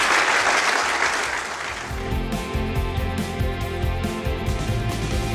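A burst of audience applause, dense and steady for about two seconds, then fading as music with a rhythmic bass beat comes in and carries on underneath.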